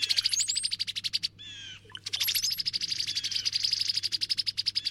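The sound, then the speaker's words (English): Cowbirds call in a rapid, chattering series of high-pitched notes that pause briefly, then resume as a steady stream, over a faint low hum. No one speaks. “It seems the cowbirds just want a smoothly running operation.”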